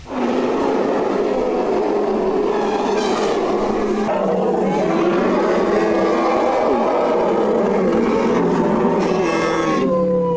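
About 75 Thai elephants trumpeting loudly and almost without pause at a National Elephant Day celebration in an elephant village park in Ayutthaya, Thailand, their brassy calls overlapping into a dense, blaring chorus with a few sharper blasts standing out.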